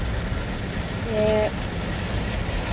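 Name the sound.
heavy rain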